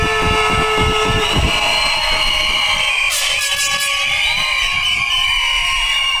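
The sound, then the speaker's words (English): A big crowd at a hardcore DJ event screams and cheers loudly and continuously before the last set of the night, a dense wall of overlapping voices with high sustained shrieks, over a low rhythmic thumping in the background. “And if you're ready to get down with the hardcore business, let me hear you scream!”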